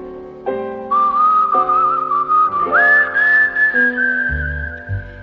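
A person whistles a bright, wavering melody over a steady musical accompaniment, the whistle clear and prominent, sliding between held notes with a few quick pitch bends.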